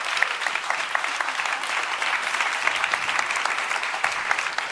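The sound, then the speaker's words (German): Steady audience applause, a dense wash of many hands clapping at an even loudness throughout, with no talking over it, welcoming the project leadership onto the stage at Jugend hackt. “Einen herzlichen Applaus für unsere tolle Projektleitung.”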